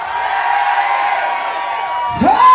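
A large crowd cheers and shouts continuously in a dense, sustained roar, with a single loud rising whoop cutting through near the end.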